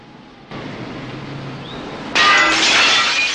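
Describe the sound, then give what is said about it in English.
A sudden loud crash of breaking window glass as a person crashes through a window into a room bursts in after a steady background hum, followed by a bright, sustained wash of shattering and tinkling shards. “Crashing through a window into a room,”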